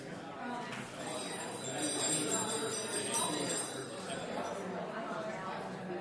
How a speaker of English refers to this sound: Okay, I hate to cut off the good discussion. Should I ring the bell?